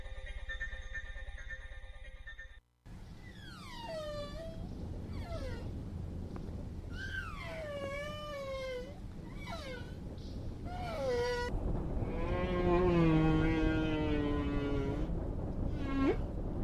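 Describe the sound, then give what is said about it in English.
Whale song introducing Henry the Hudson Whale: a series of long, rising and falling moans and swooping cries, loud, with no talking, building to a drawn-out wavering call near the end. “Now we are joined by our friend Henry the Hudson Whale for some Hudson River stories from the past week.”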